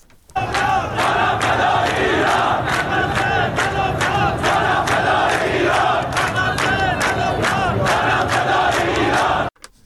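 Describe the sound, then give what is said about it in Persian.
A large crowd of protesters in Behbahan, Iran, chants slogans in loud unison, the slogans mostly against the Islamic Republic's support for some countries in the region. Voices surge steadily with rhythmic, repeated shouted bursts throughout, until the sound cuts off abruptly at the end. “بهبهان رو هم شنیدید که باز هم در اونجا هم ما شاهد این هستیم مرداد که شعارها بیشتر سمت و سوی این داره که سیاست‌های حمایتی جمهوری اسلامی ایران از برخی کشورهای منطقه موجب شده که این اعتراض‌ها صورت بگیره.”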